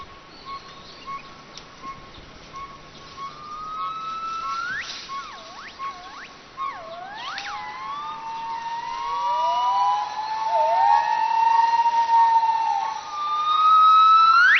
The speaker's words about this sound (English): Gibbon song once inspired the ancient poets of China, their glorious calls echoing far across the hills.